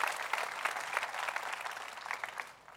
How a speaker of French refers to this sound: Est-ce qu'on pourrait applaudir ce que Dieu fait dans l'église locale partout au Québec?